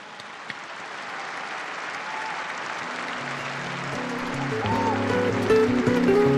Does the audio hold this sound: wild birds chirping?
no